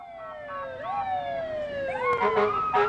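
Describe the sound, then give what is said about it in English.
Several fire truck sirens wail together in a noise parade as fire trucks and cars parade Petersburg's Devil's Thumb Shooters youth shooting team through town to welcome them home. The overlapping tones slide up and down in pitch, with a low rumble of vehicles underneath and a few sharp blasts near the end. “Then, fire trucks and cars paraded the team through town.”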